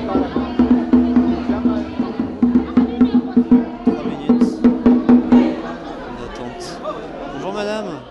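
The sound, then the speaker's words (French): A dense crowd fills a platform of République metro station in France during a protest, with some police present, voices pulsing in a loud, rhythmic, chant-like beat for about five seconds before easing into a looser murmur of overlapping chatter. “Nous voilà sur le quai du métro.”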